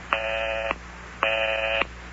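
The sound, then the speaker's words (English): A telephone busy signal heard after dialing a number from a living room: two steady, buzzy electronic tone pulses, each about half a second long with a short pause between, heard clearly with no voices. “But I keep getting the busy signal.”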